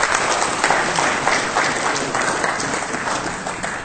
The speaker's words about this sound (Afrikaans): Nou maar goed, geef hulle allemaal een lekker ander klap.